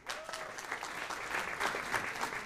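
An audience claps in a steady, modest patter of applause lasting a couple of seconds. The clapping is even and fairly subdued, with no cheering or voices rising above it.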